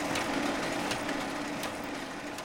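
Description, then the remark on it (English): A microfilm imaging machine at a records storage facility runs with a steady mechanical whir, broken by sharp periodic clacks roughly every three-quarters of a second as a big stack of marriage licenses is fed through it to be imaged onto film. No voices. “A big stack of marriage licenses are being fed into a machine that takes an image and puts it on film.”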